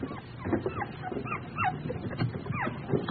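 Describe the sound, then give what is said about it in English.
A puppy whimpers and whines in a steady run of short, high-pitched rising and falling cries, somewhat muffled as if coming from inside a box, with no talking. “there's something in the box. I know that. Something alive.”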